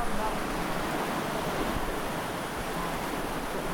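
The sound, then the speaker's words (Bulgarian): Steady, loud rushing water fills the whole recording, a dense continuous roar with no pauses, slightly gusty like wind mixed in, during a flood-response simulation exercise. “Това е шума от водата. В момента има симулация за реакция при наводнения.”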